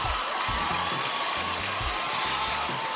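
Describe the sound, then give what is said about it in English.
A played applause sound effect: a steady wash of applause and crowd noise fills the few seconds, dense and continuous, with a faint low murmur underneath and scattered cheers rising out of the clapping. “Play the applause, man.”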